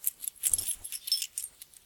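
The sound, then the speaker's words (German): A small old key jingles and clinks as it is lifted out of a hidden compartment in a cuckoo clock, bright metallic rattles in quick, irregular bursts, with a soft thump partway through. “Emma nimmt den Schlüssel heraus und betrachtet ihn.”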